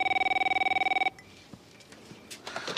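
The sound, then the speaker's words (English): A telephone rings with a rapid, warbling electronic trill for about a second, then cuts off abruptly, leaving quiet room noise and a few faint clicks and rustles. “Allison glares at the ringing phone”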